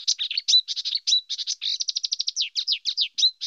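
A marsh warbler sings a fast, frenetic stream of high chattering notes, rapid trills and buzzy fragments, fairly loud, with no pauses and no talking.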